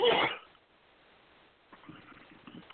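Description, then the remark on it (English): A single loud, sharp sneeze bursts out right at the start, then fades into near silence before faint, low talking murmurs in the background. “Oh, keep sneezing.”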